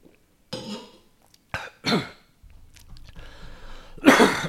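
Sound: coughing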